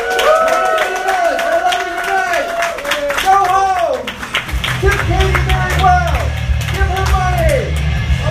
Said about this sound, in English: And big round of applause for the Comedy Tribe for putting us on tonight.